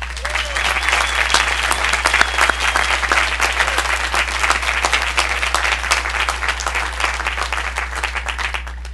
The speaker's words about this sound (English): I would personally like to welcome you to beautiful Ithaca. I hope the move-in process went well and would like for you to join us in giving a warm round of applause to the more than 700 orientation volunteers.